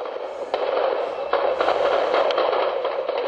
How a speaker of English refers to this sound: Last Monday, the town of Apatzingan in Michoacan rang with the sound of gunfire.